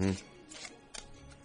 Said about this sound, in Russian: У тебя сейчас в руках стопочка из неизвестного мне количества карт. Правильно? Ну, вот то, что осталось от того, что я отложил. Отлично. Потасуй эти карты, которые у тебя в руках, ну так, чтобы ты не мог их видеть.